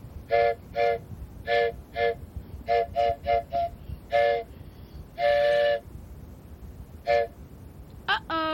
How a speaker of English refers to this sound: Here comes a train.